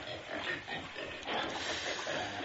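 Several pigs grunt and oink continuously, a dense, rough chorus of snorts and squeals that stays fairly loud throughout, with no talking.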